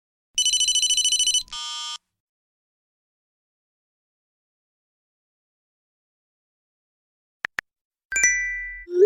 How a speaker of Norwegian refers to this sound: Jeg tror dere kjenner disse igjen. De samlede lydene fra en dag i telefonens liv.